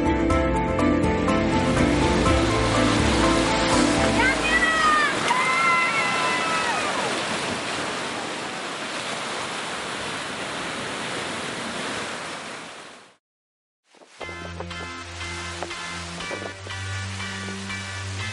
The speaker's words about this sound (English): I was laying in the water and he's right down there with me. He's in the water getting soaked by the waves, but it doesn't matter because he's going to get the perfect shot for you.